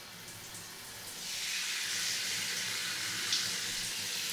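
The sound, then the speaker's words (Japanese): Steady running water, fairly loud, strengthening after the first second into a continuous bright hiss, as fizzy foam is rinsed out of a person's hair during hair washing. No one speaks. “さて、十分頭をシュワシュワできましたし、パチパチを洗い流していきますね。”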